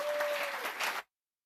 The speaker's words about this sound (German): Ich glaube, es ist angebracht, einfach nochmal allen Teams gemeinsam für diese Gesamtleistung, die sie jetzt hier zusammen an diesem Wochenende erbracht haben, nochmal einen donnernden Applaus zu spenden.